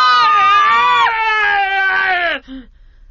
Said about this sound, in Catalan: La caputxeta, com ja heu sentit, va cridar molt abans que el llop se la mingés tota.